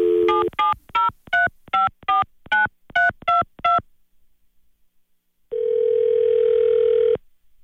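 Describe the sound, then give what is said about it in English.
A quick run of about eleven touch-tone beeps as a woman's phone number is dialed for a Bert Show prank phone call, then a pause, then a steady, unbroken dial tone humming for nearly two seconds. No one speaks. “But I dial her up because I need to talk to her about the added charges we're going to put on her credit card.”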